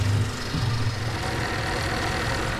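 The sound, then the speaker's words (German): The engine of a large white boat, about to head out onto the Limfjord, idles with a steady low rumble and faint knocking throb, constant and fairly loud for the whole stretch, with no talking. “Das war der Motor.”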